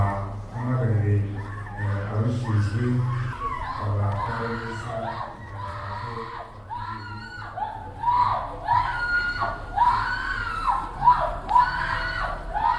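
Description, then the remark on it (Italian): A large crowd in a stadium screams and wails in distress during a commemoration, mostly women with a couple of men, many voices overlapping in a loud, continuous outcry with sharp rising shrieks breaking through. “Lo stadio si riempie di urla disperate.”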